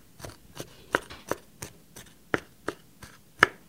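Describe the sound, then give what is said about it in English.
A knife chops peeled garlic cloves on a cutting board for a sauce in a steady series of about eleven sharp, crisp taps, roughly three per second, some strokes louder than others. No one speaks. “I'm chopping the garlic.”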